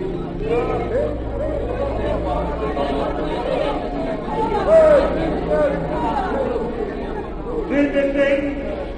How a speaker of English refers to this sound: The next day found a great crowd in the square of the capital. There were flags and shouts for peace.